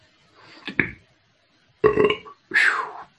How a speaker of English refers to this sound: When a shaman belches, it's not rude, it's just clearing heavy energy.